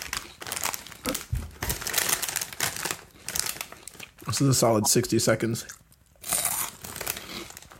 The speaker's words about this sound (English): I know you guys are probably tired of listening to me chew, but if I'm being quite honest, the only thing I want to do now is put another one in my mouth.